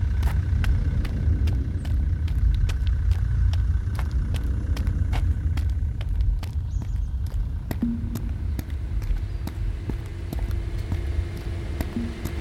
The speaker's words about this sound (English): Cut the engine.